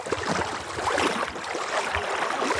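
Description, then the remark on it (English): Steady sloshing and splashing of water as someone wades knee-deep into the River Dee, with soft low thumps from each step and no voices. “And the further in I go, the darker the water appears. Reaching knees now.”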